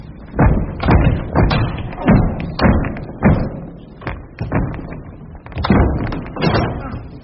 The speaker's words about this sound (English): Come on, then. Lend a hand. I want to try and bash the door in.